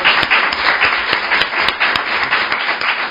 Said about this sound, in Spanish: un aplauso para Francisco y que se os oiga